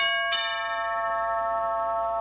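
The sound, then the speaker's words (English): A single bright doorbell chime at a house strikes and rings on with a sustained, slowly fading tone, heard clearly with no voices. “The doorbell rang at 39 Stevenson Avenue.”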